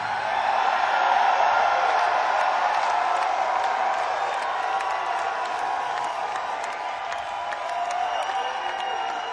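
A crowd roars and cheers steadily for several seconds, a dense wash of many voices with scattered whoops and claps poking through, staying loud throughout with no single speaker.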